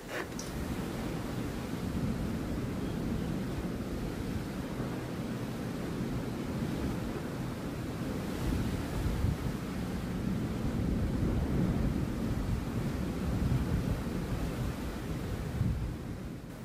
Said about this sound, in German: Jetzt bin ich mir nicht sicher, ob ich euch das Meeresrauschen gönnen möchte oder ich mich nicht lieber doch ein Stück in die Kabine zurückziehe, wo es kühler ist. Naja, dann machen wir es mal so. Ich fange mal mit Meeresrauschen an.